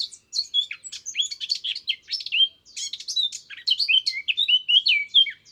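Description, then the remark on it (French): A warbler sings a rapid, continuous stream of varied chirps and scratchy trills, clear, with no other sounds or voices. “En premier, c'était Yvette la fauvette.”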